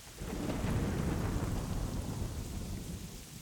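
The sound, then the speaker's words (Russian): A thunderstorm: a deep, sustained roll of thunder rumbles over the steady hiss of falling rain, loud, with no voices. “Сегодня шел дождь. Он очень освежил меня и охладил землю, но все время гремел страшный гром и сверкала молния, так что я перепугался за свой порох.”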